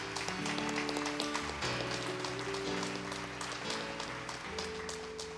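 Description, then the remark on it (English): A church audience claps steadily for several seconds for those who prayed to accept Jesus that day, a dense, even wash of applause over sustained keyboard chords that shift underneath; no one speaks. “Let's clap for those who made that decision today.”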